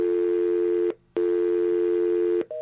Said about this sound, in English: That's the dial tone, and that's that horrible bit of static that we have to get rid of.